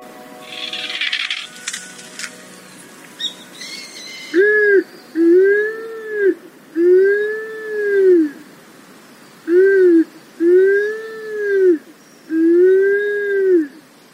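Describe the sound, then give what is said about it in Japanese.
A Japanese wood pigeon, a black-bodied bird about 40 cm long, perches in a seaside pine grove on Amami island in a strong north wind. It gives six deep, drawn-out moaning coos in short pairs, close and clear, after a few seconds of rustling wind and noise. “カラスバトです。光沢を帯びた黒っぽい体の色がそのまま名前の由来ですが、奄美の地元では別名牛バト。”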